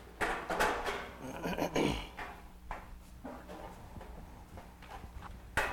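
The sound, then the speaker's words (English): Wooden chairs scrape and clunk as three chairs are moved and set up, with a burst of shuffling and dragging early on, then scattered knocks and a sharp thud at the end. “We'll get a couple of these chairs set up.”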